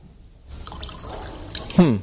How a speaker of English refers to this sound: I dumped it out. I filled it to the top and dumped it out except for a finger's worth and filled it up again. It was still green, just like this. I did it 4 or 5 times.